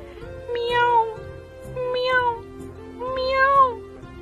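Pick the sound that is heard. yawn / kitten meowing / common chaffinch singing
kitten meowing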